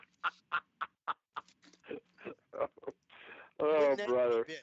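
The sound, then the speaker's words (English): A man's voice imitates a pigeon, giving a quick run of short, repeated coos, then a few looser vocal sounds and a louder drawn-out warbling note at the end. “Isn't that what a pigeon says? Coo, coo.”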